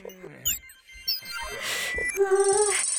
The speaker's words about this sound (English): Shh, be quiet, little phone.